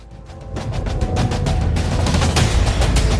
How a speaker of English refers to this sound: in Sudan, heavy gunfire erupted in the capital today amid a dispute between agents of the country's long-feared National Intelligence and Security Service and forces loyal to the transitional government.